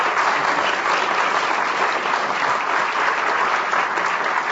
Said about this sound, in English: We want to thank our wine experts, of course, Jancis Robinson and Linda Murphy. Big round of applause for these guys.